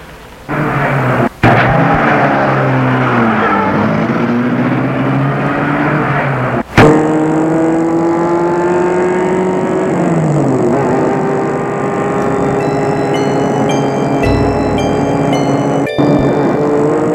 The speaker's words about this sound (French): Mets la voiture en route.